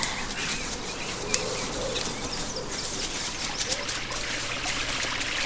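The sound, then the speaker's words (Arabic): Water splashes and trickles steadily for several seconds, a bright, busy sound with a few sharper splashy bursts standing out. No one speaks. “آه، ما أجمل الماء، كم أحب السباحة. سوف أغطس في الماء وأحاول أن أحرك يدي مثل ما يفعل صرصور وبطوط.”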